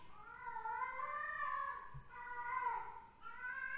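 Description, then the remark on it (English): A cat caterwauls outdoors in a long, wavering, drawn-out yowl that rises and falls in pitch. It carries on without pause, with no one talking. “There's one horny cat out there.”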